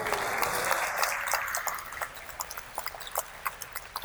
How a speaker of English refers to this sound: All of that applause goes to her.